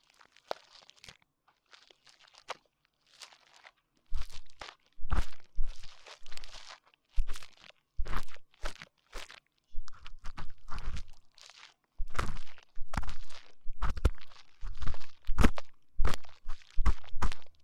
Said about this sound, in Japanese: 私もね、こうして耳かきをしていると楽しいものなんだよ。